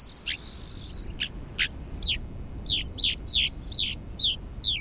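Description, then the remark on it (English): Rosy finch calls: a buzzy, high chatter gives way to a steady series of sharp, descending chirps, repeated about once every half second, clear over faint background hiss. “Their preference for extreme environments make rosy finch populations difficult to study.”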